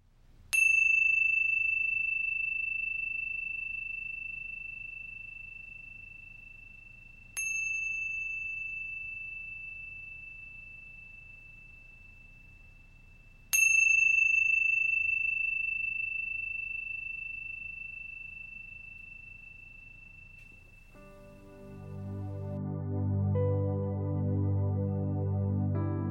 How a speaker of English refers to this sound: Now wiggling your fingers and wiggling your toes, listening to the very end of each chime, and then coming back into this space.